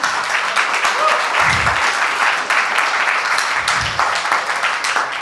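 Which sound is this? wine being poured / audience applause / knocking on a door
audience applause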